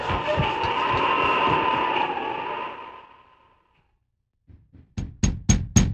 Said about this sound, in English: A few minutes later, Betty Topton answered a knock at the door.